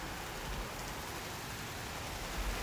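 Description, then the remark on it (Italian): Steady rain falls without pause, a dense even hiss of drops, with a couple of faint low rumbles underneath. No voices are heard. “E pioggia viene giù. Sì, oggi piove.”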